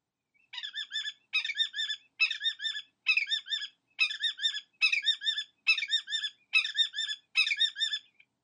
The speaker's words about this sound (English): If you spend any time exploring Assateague Island or paddling on the coastal bays behind Ocean City, Maryland, you will likely recognize the signature sound of our summertime barrier islands. The bird making this raucous noise is a willet